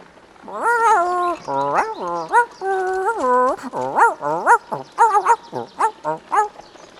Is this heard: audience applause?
no